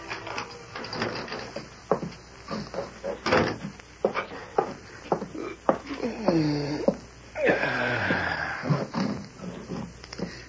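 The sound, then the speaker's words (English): The front door of a boarding house opens with creaking and clattering, followed by scattered knocks and shuffling steps as someone comes inside; the sounds are moderately loud, with a brief murmur of voice. “it was less than 2 hours later that Corey Meade entered the front door of his boarding house”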